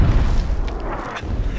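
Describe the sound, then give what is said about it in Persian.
A German artillery shell explodes with a loud, deep boom that rolls on as a heavy low rumble for over a second, with faint crackling debris above it and no voices. “پناه بگیرید، توپ برای آلمانیه.”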